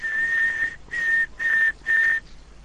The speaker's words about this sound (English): The important one is one long and three shorts, which happens to be B in Morse code, which means you have no monitor connected.